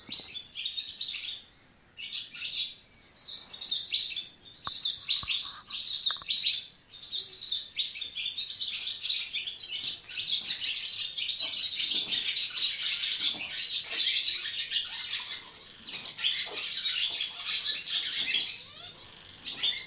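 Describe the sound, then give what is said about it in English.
A dense dawn chorus of swallows in the oldest stable block of a farm, twittering continuously in a high, bright register, with rapid chirps and trills overlapping throughout and scattered sharp beak clicks mixed in. No voices. “going to walk into the oldest stable block here at the farm and just see if there's a bit of a swallow dawn chorus.”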